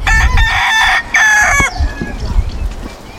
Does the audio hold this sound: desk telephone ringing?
no